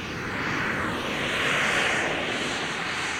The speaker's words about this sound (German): Inzwischen steht das Flugzeug auf der Startbahn.